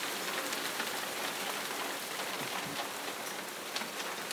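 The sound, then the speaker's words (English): Pea-sized hailstones of ice pelt down hard and continuously, a dense, loud clatter of countless sharp impacts with occasional louder cracks standing out, with no voices. “It's still hail.”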